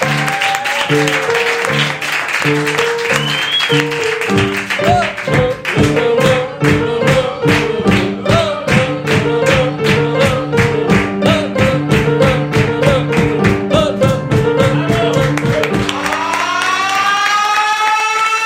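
Loud applause breaks out, the claps falling in a brisk, steady rhythm over a bright, lively melody that plays throughout. No one speaks.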